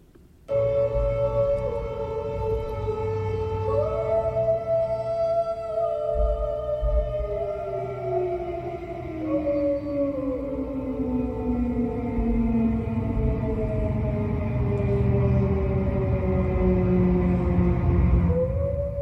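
A loud, continuous German E57 air raid siren, rated 101 decibels at 30 meters, wails from start to finish, its tone slowly gliding up and down over a steady low rumble, with no talking, heard from a bedroom.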